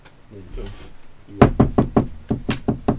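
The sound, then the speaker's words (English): Sharp, evenly spaced hammer blows, about eight in quick succession, ring out loudly as a placard is hammered onto a wall at the Beast Guild's Guild House, after a brief murmur of voices at the start. “So, who gave you permission to hammer your placard here?”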